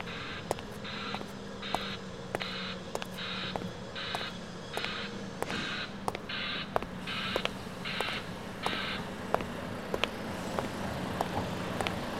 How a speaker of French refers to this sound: Il y a des gens qui font des travaux, ben, ils construisent des maisons, il y a des bruits de camions, ben, il y a des bruits de bois, de les fer.